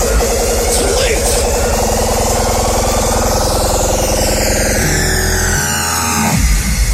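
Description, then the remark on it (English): A loud, continuous digitally distorted sound, harsh and buzzing with gritty, crackling harmonics and thin whining tones sweeping up and down, breaking up and stuttering near the end. “You may have heard this type of distortion creating a digitally distorted sound.”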